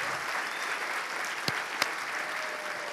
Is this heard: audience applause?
yes